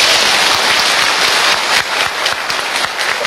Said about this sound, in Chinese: 然后我们今天你看昨天跟今天有这么多的法师来听经闻法，我们很赞叹，是吧？大家给鼓掌，是吧？